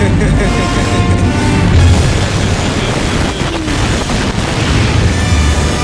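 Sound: explosion boom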